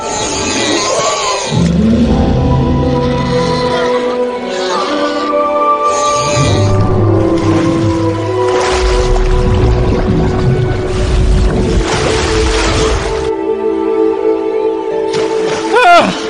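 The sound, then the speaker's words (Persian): A boat moves through water, with a steady low churning rumble and splashing surges that swell and fade, under sustained droning, creaking tones, loud throughout. “آره، این قایقیه که من انتخاب کردم.”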